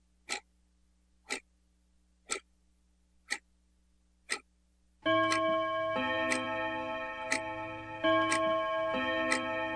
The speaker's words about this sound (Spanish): Reloj de campana, tócame las horas.